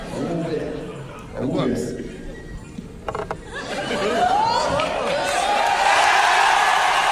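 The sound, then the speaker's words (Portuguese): A crowd's murmur and scattered voices of an audience in Caxias swell after a few seconds into loud, sustained cheering and shouting that keeps building to the end, recorded on a phone microphone. “Só pra galera entender a explosão da plateia.”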